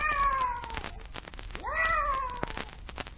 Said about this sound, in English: I wonder what that cat was doing here. Probably mascot for a regiment of witches.